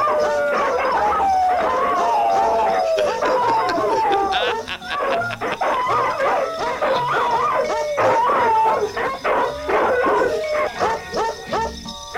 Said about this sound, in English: Okay, are you ready? Ready. All right, here comes the singing dogs.